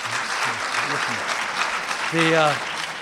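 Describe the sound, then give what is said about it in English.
Steady audience applause, after a man says he has just over 15 years of sobriety, fills the whole stretch as a dense, even patter of many hands, while a man's voice speaks briefly over it near the start and again toward the end. “The applause is to you. The applause is to him.”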